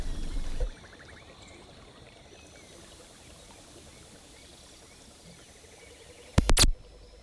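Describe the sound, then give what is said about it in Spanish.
A river flows with a steady, even rush of water throughout, fairly soft and continuous, with a brief louder bump at the start and another short knock near the end. “A ver, ponemos el río, si quieres.”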